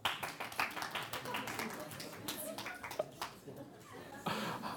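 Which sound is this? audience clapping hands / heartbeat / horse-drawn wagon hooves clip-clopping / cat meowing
audience clapping hands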